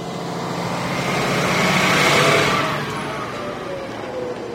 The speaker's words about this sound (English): Shoulders scrunched, she trudges onto the bus that will take her on a slower ride to the bottom of Maryhill Loop.